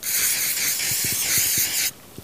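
A deodorant spray can hisses in one continuous burst for nearly two seconds, loud, sprayed onto a shirt laid under gathered sticks, then cuts off abruptly, with a few faint low knocks underneath.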